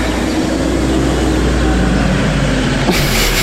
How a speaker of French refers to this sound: Un peu beaucoup de bruit là. Voilà, on rentre à l'intérieur parce que dehors, il n'y a pas que les oiseaux, il y a aussi les voitures et du coup, on risque de ne pas s'entendre.